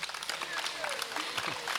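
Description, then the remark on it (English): Steady applause from an outdoor concert audience in an amphitheater after the rain has stopped, a dense patter of many hands clapping, with scattered crowd voices mixed in underneath. “You will note that no one sitting in a chair applauded.”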